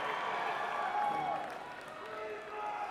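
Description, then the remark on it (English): A crowd claps and cheers steadily for a few seconds at the mention of Terry Bradshaw and his four Super Bowls, a dense wash of applause with voices rising and falling inside it, fairly loud and sustained throughout. “You gotta cheer that one.”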